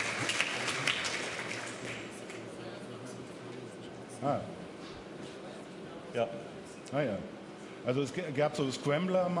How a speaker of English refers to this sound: To applause and laughter from the audience.